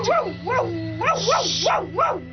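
A dog named Baraqish barks in a quick, steady series of high, yelping barks, about six in a row, fairly loud with no talking.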